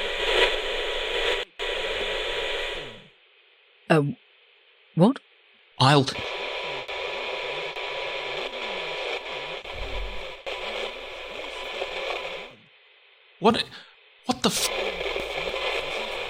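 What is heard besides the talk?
radio static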